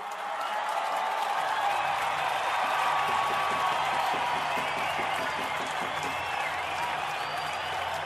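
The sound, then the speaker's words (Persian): A large audience applauds steadily, dense overlapping clapping that fills the space at an even, fairly loud level throughout, with a faint crowd murmur underneath. “سکوت سنگینی حکم فرما شد و سپس تشویق حضار فضا را پر کرد.”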